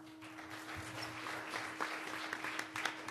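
An audience at a panel discussion claps steadily for about three seconds for a speaker who has just been introduced, a soft, dense patter of many hands with a few sharper claps standing out, and no one speaking over it.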